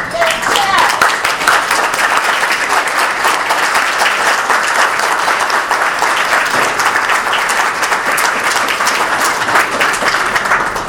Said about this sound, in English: And now I would like you all to stand and give a rousing hand of applause for Jeff.